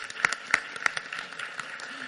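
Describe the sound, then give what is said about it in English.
A room of people applauding at a regents meeting to acknowledge a staff member's 30 years of service, a steady patter of claps, with a few sharper, louder claps standing out near the start. No one speaks. “Let's applaud her.”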